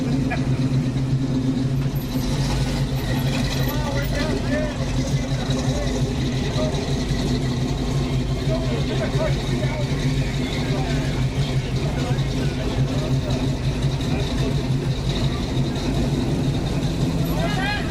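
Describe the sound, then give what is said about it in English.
Car engines idle at a car show with a steady, low rumble that never lets up, while indistinct voices of people chatter throughout. “Well, enjoy the car show.”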